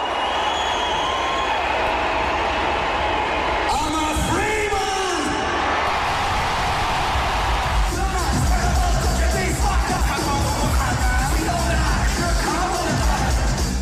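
A large crowd roars and cheers steadily, with rising whoops and shouts breaking out around a third of the way in, and the noise swelling into a denser wall of cheering toward the end.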